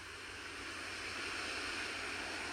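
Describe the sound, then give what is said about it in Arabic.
A steady, hissing wash of ocean surf rolls on without pause, soft and continuous, like waves breaking and spreading along the shore. No voices can be heard. “خلي صوت الموج ياخدنا ويجيبنا بكل أمان نحن وقاعدين على الشط.”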